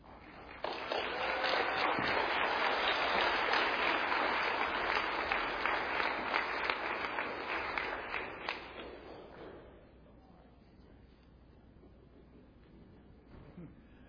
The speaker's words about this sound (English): All right, let's give one more round of applause for these kids and all the hard work they contributed.